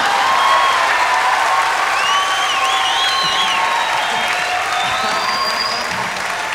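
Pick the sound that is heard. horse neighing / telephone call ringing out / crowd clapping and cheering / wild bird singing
crowd clapping and cheering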